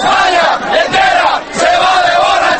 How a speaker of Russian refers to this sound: Ликование продолжалось до утра. «Чемпионы, чемпионы, оле, оле, оле!» выкрикивали испанцы свое традиционное приветствие спортсменам-победителям.